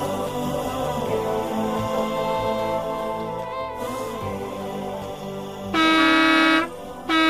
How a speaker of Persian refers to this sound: راننده اتوبوس برای چندمین بار دستش را روی بوق فشار داد. صدای گوش خراش بوق همه گنجشک‌ها و کلاغ‌ها و قمری‌های روی درختان کارخانه را فراری داد.